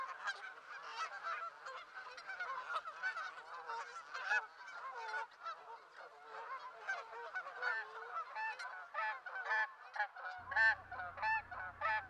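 A flock of Canada geese honks continuously, many overlapping calls forming a loud, dense chorus, with a low rumbling hum entering near the end.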